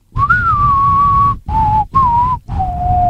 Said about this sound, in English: Its theme song has a whistle.